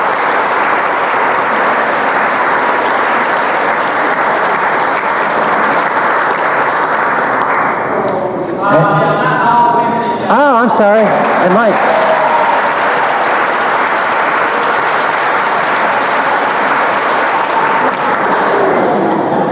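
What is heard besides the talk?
audience applause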